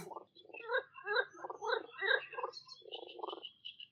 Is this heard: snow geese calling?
no